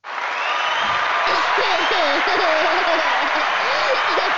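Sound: hand clapping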